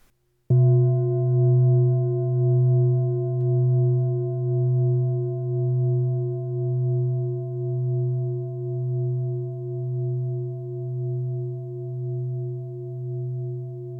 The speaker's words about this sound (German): Nun hörst du einen Gong. Folge dem Klang, bis du ihn nicht mehr wahrnehmen kannst.